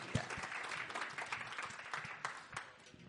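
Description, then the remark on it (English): An audience claps steadily for a few seconds to welcome a speaker before his talk, a dense, even patter of many hands with a few sharper individual claps standing out, at a fairly modest level. “So let's just give him a clap before we start.”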